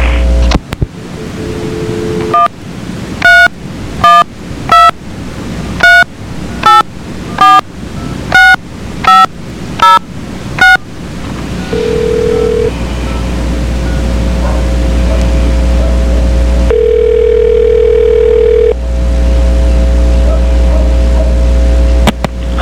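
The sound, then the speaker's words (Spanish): A quick, evenly spaced run of about ten touch-tone dialing beeps, loud, as a three-way telephone call is set up, followed by a steady low hum and line hiss with a couple of brief tones. “Hazle un triline para José Antonio.”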